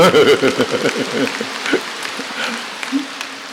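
A voice speaks briefly, then a steady patter of clapping rises and carries on, a dense crackling texture of many hands applauding at moderate volume.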